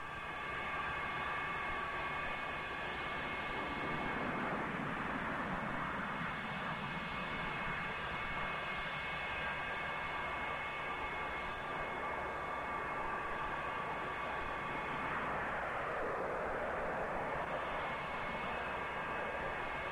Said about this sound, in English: F-100 is an airplane built for speed and short distances. It was the first Air Force airplane to break the sonic barrier back in 1954.